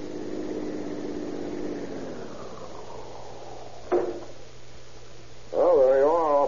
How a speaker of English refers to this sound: How did you like your first ride in a police car? Oh, I feel kind of worn out. Oh, but what punishment you fellows give a car.